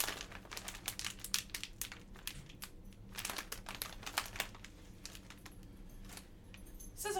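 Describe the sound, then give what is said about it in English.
Steady crinkling of a sealed plastic pouch being handled and opened with scissors, a dense run of crisp rustles and snaps lasting several seconds with no voices. “Super protective pouch.”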